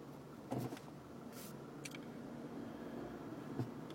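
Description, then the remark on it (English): Steady low traffic rumble from many cars at an intersection, punctuated by a few short mechanical clunks and a brief hiss of passing vehicles, with no one speaking. “Okay, cars. There are a lot of you.”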